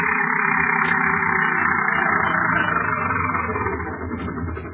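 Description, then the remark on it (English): A car approaches a woman standing at the edge of the town of Fairfield, its engine running with a steady, droning rumble and a raspy mid-range hum, holding a fairly even level throughout before easing slightly at the end. No one speaks. “A car is approaching her.”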